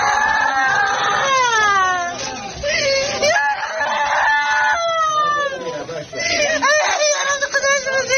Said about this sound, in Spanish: Una mamá llora a gritos después de que el doctor le acabara de comunicar, en una sala de urgencias plagada de pacientes, que los esfuerzos para salvar a su niña pequeña han sido inútiles.